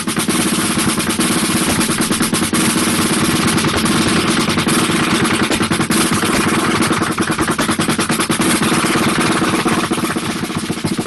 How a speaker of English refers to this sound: So of course, I'm a double bass fanatic, and I put in my double bass when I'm warming up like that. Even if I'm on a chair and my feet are on the floor.